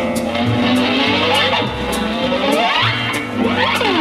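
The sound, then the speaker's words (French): A big car being driven too fast: its engine roars loudly and continuously, its pitch sweeping up and down as it speeds and shifts, with a steady rhythmic ticking running over the top. “Oh là là là là là là, mais il conduit trop vite, ce garçon.”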